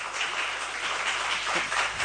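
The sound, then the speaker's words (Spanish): A group applauds, with dense, overlapping claps forming a steady wash of sound for about two seconds at an even loudness, and no one speaking, during a session where a motion is being voted on. “Bé, doncs els aplaudiments no varen servir en aquest cas”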